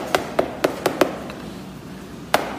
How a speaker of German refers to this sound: prüft, indem er es rhythmisch mit einem kleinen Metallhammer von allen Seiten abklopft. Der Klang verrät dem Experten so innere Mängel. Nur Käse mit einem klaren, gleichmäßigen Klang erhält das mit Feuer eingebrannte Qualitätssiegel.